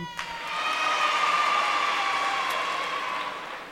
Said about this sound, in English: This is probably a sure way to get applause, but I was born in Brooklyn.